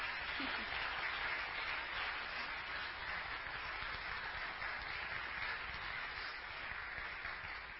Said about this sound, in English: Thank you to our amazing worship team. Let's give a round of applause for them.